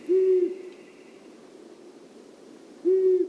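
bird, long-eared owl low-pitched hoot

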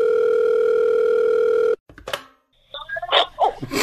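signal or alarm, phone ringing

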